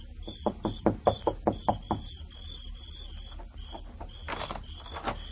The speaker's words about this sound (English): He knocks on the door.